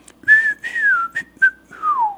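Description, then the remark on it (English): A man whistles a call to a friend in a whistled language at a hut early in the morning: a short phrase of about five sliding, pitch-bending notes, clear, mimicking the rise and fall of spoken words, ending with a long downward glide. “Now, he could talk and call to me, or he may whistle. If he whistled, it would go something like this.”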